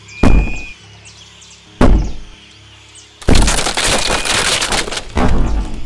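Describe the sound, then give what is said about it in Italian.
Two heavy, sharp thumps land about a second and a half apart, then a loud sustained crash of splintering wood and breaking debris follows as a fragile door of a ruin is punched open with fists. No one speaks. “Mazza, la porta era proprio fragica, però.”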